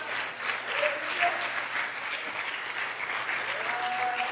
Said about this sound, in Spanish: ¿Cuánto le pueden dar un aplauso a Dios en esta tarde?